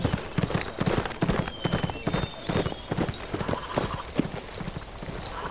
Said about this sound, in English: He kneed his horse and the hunters watched as their quarry wheeled and galloped away.